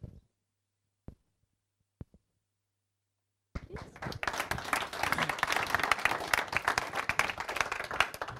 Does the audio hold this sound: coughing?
no